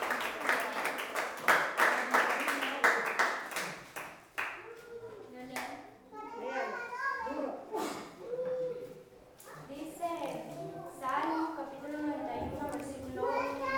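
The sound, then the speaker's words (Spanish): A crowd claps for the Lord together in a dense, steady burst for a few seconds, then the applause dies away and several voices talk over a murmuring background. “Dale un aplauso al Señor, porque Él vive y permanece para siempre.”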